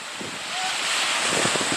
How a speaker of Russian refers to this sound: И вот океан, песочек.